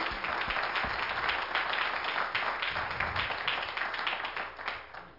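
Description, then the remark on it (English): A crowd applauds with steady, dense hand clapping given for Jesus Christ, filling the whole stretch, a continuous rattling wash of many hands at an even level with no speech over it. “Now, if you're born again and saved by the blood of Jesus Christ, give Him a hand clap.”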